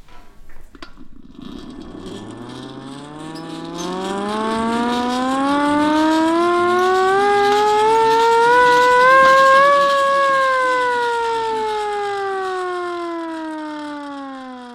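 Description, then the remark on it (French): A small hand-cranked siren winds up from a low growl to a loud, steady wail over several seconds, then slowly sinks back down in pitch as the cranking eases, heard alone. “Non, c'est une sirène à manivelle. Je vous fais écouter.”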